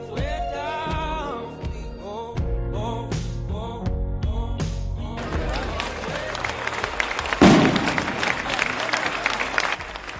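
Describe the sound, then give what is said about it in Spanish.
A short COPE radio jingle with bright tonal notes gives way, about halfway through, to a crowd's loud, sustained applause at a tribute in Oñati to Xavier Ugarte Villar, Ortega Lara's former jailer, freed after 22 years in prison; the dense clapping stays steady to the end. “Estos aplausos, este sonido, es el sonido de un homenaje a quien fue el secuestrador, el carcelero de Ortega Lara.”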